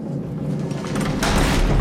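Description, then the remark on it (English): A heavy door opens with a deep, rumbling scrape that swells louder partway through, over a steady background murmur, as a prisoner is pushed through it. “A door opens and Gisborne's pushed through, followed by Meg.”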